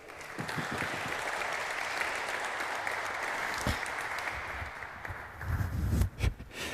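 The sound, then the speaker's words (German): Steady crowd applause for a speaker being introduced at a talk, a dense wash of many hands clapping that carries on for several seconds, then thins out near the end as a few low thumps and handling noises come through. “Großen Applaus bitte.”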